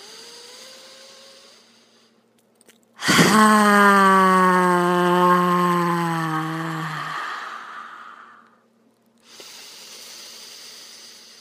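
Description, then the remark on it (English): A person lets out one loud, forceful voiced exhale with the tongue stuck out and its tip dropped toward the chin, a long roaring 'haaa' imitating a lion. It holds steady for several seconds, then fades into a breathy hiss before quiet returns. “sticking the tongue out, dropping the tip of it to the chin, and saying, ah, making the face of a lion roaring. We need to hear your roar in the world.”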